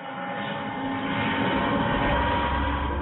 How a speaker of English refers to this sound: This is Kai Tak Airport in Hong Kong. A chartered plane is warming up for a special flight.